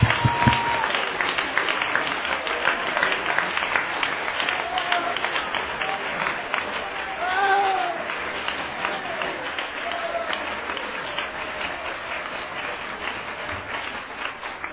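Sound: audience clapping hands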